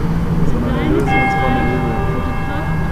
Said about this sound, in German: 54 Glockenschläge, jeder steht für einen Verstorbenen aus Hameln infolge einer Corona-Erkrankung.